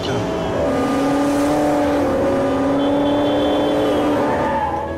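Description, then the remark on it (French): A black sports car's engine roars steadily, its pitch rising and dipping as it revs and shifts while weaving through traffic, with a low road rumble underneath. “La voiture de sport noir slalome dans la circulation.”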